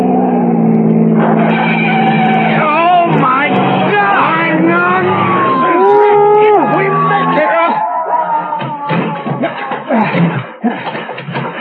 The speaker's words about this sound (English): 98 miles an hour. You weren't kidding about flying this heap. Another 2 miles an hour and we will be airborne.